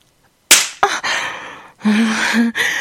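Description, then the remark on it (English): Two sharp slaps of a hand on a person's skin in quick succession, followed by a couple of seconds of steady rustling, rubbing noise as the person rubs their thighs together, with no talking. “Oh, I love when you slap me around like a whore.”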